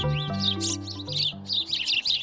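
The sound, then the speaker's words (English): A house sparrow chirps in a quick, continuous series of bright, clear calls over a steady low sustained tone in the background. “The house sparrow, introduced to North America from Europe in the mid-1800s, has spread across the continent and can be seen grabbing French fries off the sidewalk from coast to coast.”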